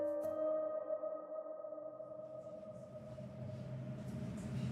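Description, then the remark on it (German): Inside a moving Berlin S-Bahn commuter train: a steady low rumble with sustained tonal whines from the motors, the hum swelling slightly as the ride continues, with no voices. “Sie sitzt völlig aufgelöst in einer Berliner S-Bahn.”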